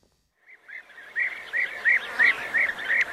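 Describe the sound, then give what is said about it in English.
A steady series of rolling, liquid bee-eater calls in Bulgaria, about eight short trilled notes in quick succession, growing louder after a faint start and clear over a soft background hiss. “The new graduate and wildlife sound recordist Arjun Dutta recalls bee eaters in Bulgaria.”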